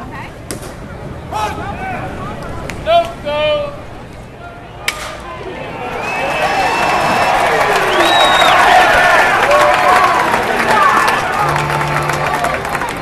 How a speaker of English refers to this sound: Sounds from the concession stand, the crack of the bat, and cheering fans haven't changed much at ballparks over the years.